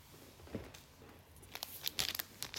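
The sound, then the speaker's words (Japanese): Crinkling and tearing of the plastic packaging of a TENGA Pocket from a three-pack, starting with a soft rustle and building into a series of sharp, crisp rips and crackles toward the end, with no talking. “ではテンガポケットを開けていきますね。”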